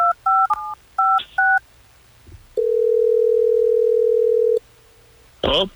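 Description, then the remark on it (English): Several quick touch-tone dialing beeps as a telephone call is placed, then a single long, steady ringback tone of about two seconds as the call rings through, ending in a brief noisy burst like the line being picked up. “Well, let's get him on the phone and try to figure it out.”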